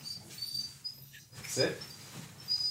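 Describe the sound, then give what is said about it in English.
A dog named Arby shuffles about, with a brief soft whine midway through, over a low steady background hum. “This is my dog, Arby, after the roast beef place.”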